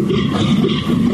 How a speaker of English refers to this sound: That's right, a European fallow deer. Wow.